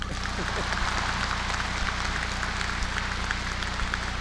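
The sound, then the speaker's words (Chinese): A large audience applauds steadily for several seconds, a dense, even wash of many hands clapping at constant loudness, with a low steady hum beneath it. “先要接下来先要鼓掌的呀。”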